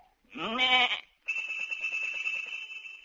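A sheep gives a short, loud bleat, then a bright, sustained bell tone rings out with a quick rhythmic jangle for a couple of seconds, fairly loud. The sheep's bell is tuned to a note of a chromatic scale and rings when a shepherd knocks the sheep on the head with his crook.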